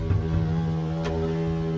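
A hornet buzzes steadily, its wings beating at a very high frequency, a low, continuous droning hum with no pauses and no voices.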